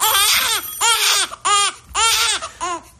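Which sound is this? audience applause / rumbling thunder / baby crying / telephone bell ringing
baby crying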